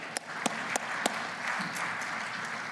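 A church audience applauds to welcome back college students from UofL, Boyce, Spalding and JCTC, a few sharp distinct claps standing out at the start before blending into a steady, moderately loud wash of clapping that carries on without any talking.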